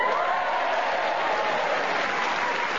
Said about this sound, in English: As you can hear from the warmth of their applause, they are delighted to welcome us back to do another edition here of Just a Minute.